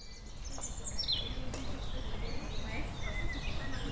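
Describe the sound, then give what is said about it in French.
Scattered bird chirps and short song phrases ring out over a steady outdoor background in the Saint-Martin meadows near the centre of Rennes, France, under a blue sky, some calls bright, others fainter, with no talking. “Sous un grand ciel bleu, la ville semble disparaître pour laisser place au chant des oiseaux et au calme de la nature.”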